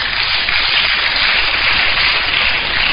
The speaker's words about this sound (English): I thought you would clap for her. You didn't know it. Somebody knew it. Shouldn't you clap for the person? Clap for her again.